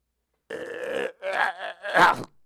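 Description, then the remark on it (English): A voice imitates a fish named Shield choking, coughing up and vomiting out a tiny prophet: three loud, gurgling, belch-like retches in a row, each rough and strained, the last one the loudest. “And now the fish has vomited me out, and I'm free to go out in the world and do what I was meant to do, whatever that is.”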